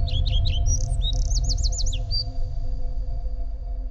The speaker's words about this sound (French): Parfois aussi incroyable que cela puisse paraître, dans l'artère principale de la capitale, on entend même un oiseau chanter.